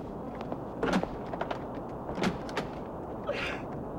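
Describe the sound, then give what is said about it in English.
A restroom door on a jet plane slides shut and a latch clicks into place as a woman locks herself inside, a few short clunks and rattles spread over a few seconds against a steady low hum, with no voices. “walks out of the first class section to a restroom, and quickly locks herself inside.”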